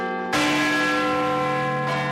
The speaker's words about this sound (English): you can't have New Year's Eve without the sound of Big Ben